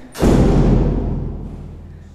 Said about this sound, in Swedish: Nu ska vi baxa upp den här ganska tunga ägdörren som brukar svälla till vid fuktigt väder.